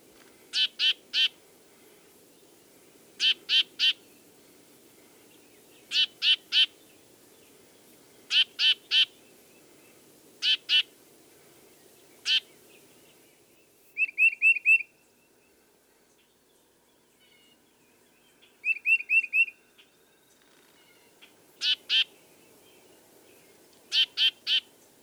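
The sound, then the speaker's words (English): A tufted titmouse gives harsh, nasal calls in quick clusters of two to four notes, repeated at steady intervals, with two brief higher, buzzier trills, clear over a quiet background. “One which is commonly heard is a nasal call.”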